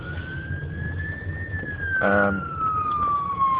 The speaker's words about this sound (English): Oh, here comes an ambulance. Just got to pull over a little bit.